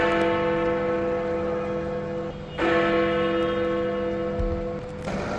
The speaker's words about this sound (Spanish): Claro, esta es la campana de un reloj, ¿no? Normalmente estas funcionan de forma automática. Suelen dar las horas en punto, las medias y en algunos también los cuartos, ¿no?